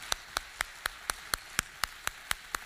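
Steady, evenly spaced hand claps, about eleven sharp slaps at a quick regular beat, fairly soft and with no voices over them, given as applause for the audience at a church service.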